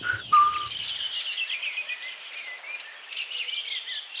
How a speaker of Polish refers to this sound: Statko, które wydaje takie świergotliwe jazgody trwające wiele, wiele minut. Ale tak robi wiele ptaków, bo tak jak sejmikują szpaki, to też to ma miejsce. Natomiast co charakterystyczne u droździków, to takie pogwizdywania co jakiś czas. Trzy nutki.